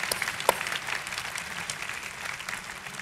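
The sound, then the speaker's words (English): An audience at Covenant applauds those who have faithfully served Covenant for the past 47 years, a dense, steady wash of many hands clapping at moderate volume, filling the space evenly throughout without any voices standing out. “So, my dear friends, let's give an applause to those who have faithfully served Covenant for the past 47 years.”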